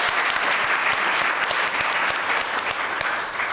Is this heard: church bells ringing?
no